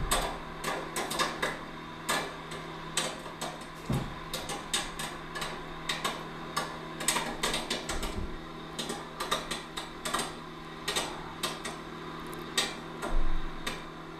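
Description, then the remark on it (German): Popcorn pops irregularly in a microwave, sharp crackling bursts scattered throughout over a steady low hum, with no voices. “Ach, Popcorn!”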